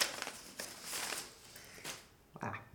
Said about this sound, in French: Donc, après, il va y avoir des bruits de papier de toutes sortes, hein, les macules que j'enlève.